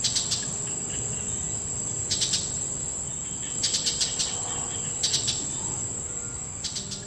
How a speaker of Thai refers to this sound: นกอีเสือสีน้ำตาลนกนักล่าตัวเพรียวที่มีปลายปากแหลมงุ้มคล้ายกับนกเหยี่ยวและชอบจับเหยื่อพวกสัตว์เลื้อยคลานเอามาเสียบไว้กับหนามเพื่อกลับมากินต่อทีหลัง